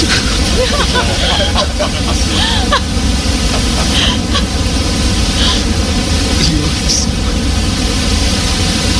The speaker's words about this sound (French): Alors, par exemple, j'ai créé pour vous en deux clics un bruit brun. C'est un bruit qui ressemble un peu à des vagues. Il est plus grave que le bruit blanc et on l'utilise généralement pour endormir les bébés. Voici mon bruit brun.